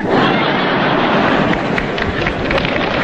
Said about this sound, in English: That got applause.